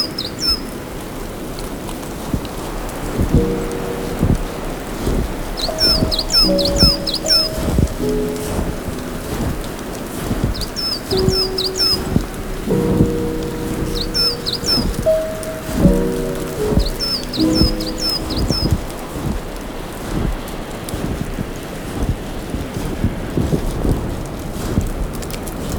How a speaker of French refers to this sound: Il y a toujours ces conglomérats de neige. Qui tombent des branches.